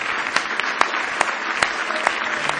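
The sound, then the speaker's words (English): A standing audience at an evening church service claps hands in praise of the Lord, a dense, steady wash of many hands with sharper individual claps popping out, sustained and fairly loud throughout with no talking. “Let's stand tonight and give the Lord a real good hand clap of praise tonight.”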